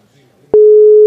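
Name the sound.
telephone busy signal tone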